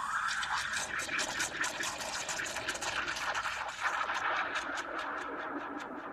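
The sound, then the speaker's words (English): A coffee machine whirs and grinds steadily, a dense mechanical buzz with a rapid rattling texture that holds throughout, with no voices. “Let me show you how the coffee machine works.”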